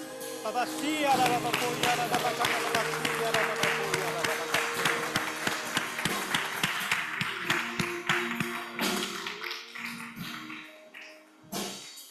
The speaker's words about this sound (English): Let's give a big clap to Jesus.